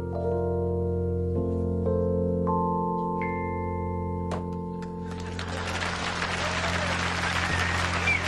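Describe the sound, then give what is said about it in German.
Sustained musical notes ring out, then a crowd bursts into steady applause that fills the second half and continues, fairly loud, to the end. “Ganz großen Applaus.”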